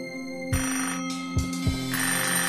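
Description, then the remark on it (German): A telephone rings with a bright, buzzing bell tone, accompanied by a few low thumps and a steady hum, fairly loud with no voices. “Und, meine Damen und Herren, unser Intro beginnt auch mit einem Telefonklingeln.”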